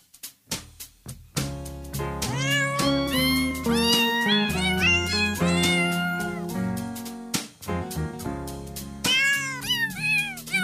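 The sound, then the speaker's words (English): A string of pitched cat meows arranged into a bouncy Christmas tune, rising and falling in melodic phrases over a steady musical backing, loud with no talking. “Oh, I gotta love those chicken cats and roasting chestnuts.”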